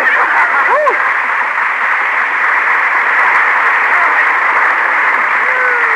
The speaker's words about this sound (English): Applause for somebody.